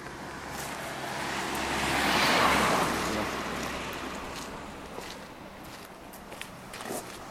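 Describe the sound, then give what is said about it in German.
Quiet outdoor ambience of the village square in Rocha Montana in the afternoon, with little going on, some parked cars and the occasional passer-by: a steady, airy wash of wind-like noise that swells midway, with a few faint footsteps and small clicks and no voices. “Wir befinden uns nun mitten im Dorf, auf dem Dorfplatz hier in Rocha Montana.”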